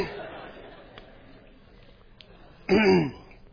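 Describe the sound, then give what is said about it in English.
A single loud, rough cough that catches like a throat clearing, after a drink went down the wrong way, following a few seconds of faint background murmur. It ends abruptly, with no talking around it. “I took a drink to clear my throat and it went down the wrong.”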